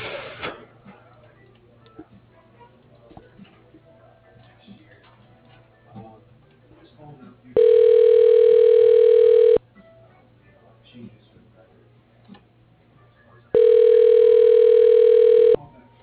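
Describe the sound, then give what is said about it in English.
A phone line rings twice as a call is transferred to a cell phone, each ring a steady, loud two-second electronic tone separated by a roughly four-second gap, over a faint background of soft ticking and low hum. “I could try to put you through to his cell phone so you could leave him a message.”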